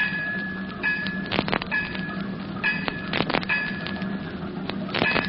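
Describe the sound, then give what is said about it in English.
Metallic tapping on a sewage pipe running down through wreckage, someone buried 15 feet below tapping out five bells; sharp ringing knocks in small irregular clusters with short pauses between, each tap leaving a bright, resonant clang over a low steady hum. “A tapping. It's coming from the sewage pipe.”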